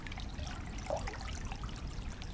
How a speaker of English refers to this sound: And we have the stream itself, of course. We've got a mic there because sometimes we get the otters coming up, and there's kingfisher.